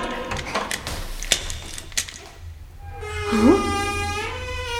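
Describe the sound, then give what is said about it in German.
A key rattles and clicks in a door lock as the door is unlocked to free someone shut inside, with several sharp metallic clicks, followed by a drawn-out, rising creak with a tonal quality. “Der Schlüssel steckt im Schloss.”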